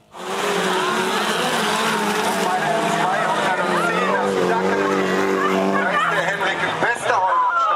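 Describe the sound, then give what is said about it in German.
Autocross race car engines roar and rev loudly and continuously at an annual autocross race in Löhne, North Rhine-Westphalia, Germany, pitch sweeping up and down as cars accelerate past, with crowd chatter faintly underneath. “In dem sonst eher ruhigen Städtchen Löhne in Nordrhein-Westfalen heulen einmal im Jahr die Motoren auf.”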